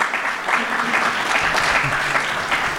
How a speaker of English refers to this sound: And representatives from the Office of Governor Kathy Hochul, the New York State Power Authority, and Buffalo and Erie County Greenway Standing Committee. So a round of applause for those representatives.